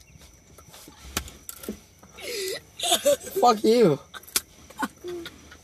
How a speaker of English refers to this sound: We're in a car, just letting you know. That's where you're gonna hear the doors open.